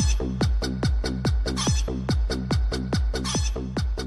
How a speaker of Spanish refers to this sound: Espérate, vamos a escuchar las gallinas.